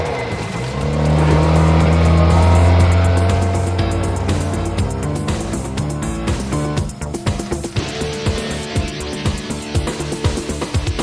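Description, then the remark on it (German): A car engine catches and revs up loudly, then roars steadily as the vehicle pulls away, with rattling and clattering mechanical noise through the rest of the sound. No one speaks. “Schmeiß den Motor an, Eddie. Wir fahren los.”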